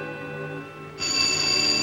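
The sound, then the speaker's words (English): A telephone bell bursts into loud, continuous ringing partway through, after a moment of steady, low musical tones; no one speaks. The phone rings around midnight and Hilda answers it. “Hilda answers the phone.”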